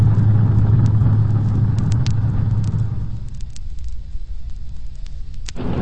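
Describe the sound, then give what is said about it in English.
A police car's engine rumbles loudly with a low steady drone as it drives into a service station at 2nd and Capitol, then eases off after a few seconds into a quieter idle, with faint scattered clicks and ticks and no voices. “They just drove into the station.”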